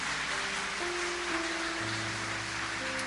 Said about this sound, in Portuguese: Quem crê nessa palavra? Aplaude o nome do Senhor. Aplaude o nome do Senhor.